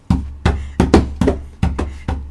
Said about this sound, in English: Knock on the door. Knock. Ding, ding, ding, ding. Knock. Supposed to knock.